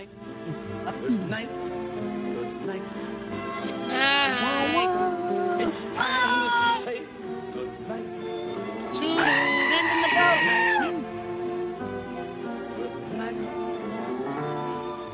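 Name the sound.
goat bleating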